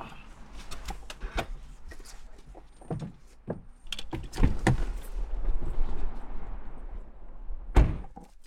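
A car door is opened and thumped shut as a man gets out of the car during an interview, with several dull thuds and bumps amid rustling and shifting movement, ending in one more solid knock. No one speaks.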